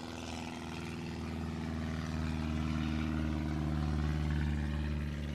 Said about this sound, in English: These planes are really annoying, but I will continue. It needs a muffler. playing with straight pipes.